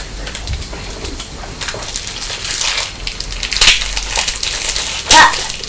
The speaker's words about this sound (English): So I'm just opening a new packet of cheese and that's the sound it made when the knife went in.